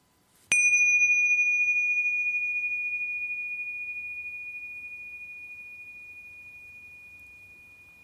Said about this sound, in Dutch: En als je dan zo het belletje hoort, dan beginnen we met de oefening.